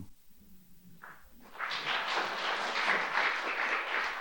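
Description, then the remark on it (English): After a brief quiet moment with a soft thud, the audience of a live panel discussion bursts into applause that swells in and holds steady: a dense, continuous wash of many hands clapping, fairly loud, with no voices over it. “That's a very specific kind of applause.”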